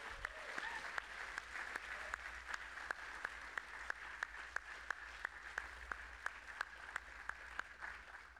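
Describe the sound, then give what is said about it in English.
An audience at the Hope event applauds itself for attending, a dense wash of many hands clapping with a few sharper individual claps standing out at a regular beat, sustained at an even level throughout. “Let's give ourselves a round of applause for showing up to Hope and being part of it.”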